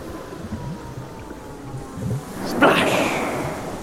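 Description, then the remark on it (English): Waves wash in at Brighton seafront with a steady low roar, then one surges louder near the middle and breaks into a broad, hissing rush that lingers. No voices are heard. “We wandered down to Brighton seafront to hear what was going on.”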